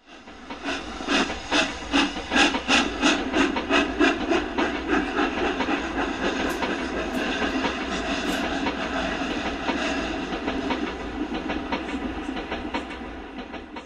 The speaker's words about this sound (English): And the train slide out of the station.